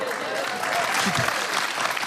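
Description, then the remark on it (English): Recorded audience applause being played back: steady applause fills the whole stretch, a dense, continuous patter of many hands clapping at a fairly loud, even level, with a few murmured voices mixed in. “It's okay, because the good thing is we've recorded this applause, and so you can just play it to yourself anytime you like.”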